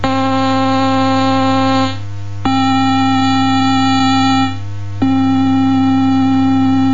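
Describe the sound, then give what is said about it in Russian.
A steady, loud subtractive-synthesis synthesizer drone from oscillators rich in overtones, low-pitched and buzzy. Twice it briefly turns duller and softer, then snaps back bright with a sharp click. “Осцилляторы порождают не мертвую синусоиду, а богатые обертонами звуки.”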